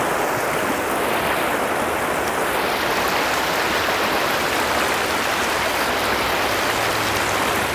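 fast-flowing river water

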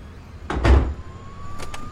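door swinging shut

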